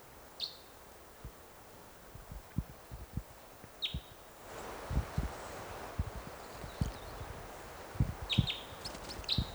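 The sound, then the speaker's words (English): Red Crossbill chitter calls at a bird-netting site, from a lone male perched in a tree above the net. Brief, high, clipped chirps come in small clusters near the start, in the middle and at the end, over steady background hiss and scattered low knocks and thumps. “Chitter there.”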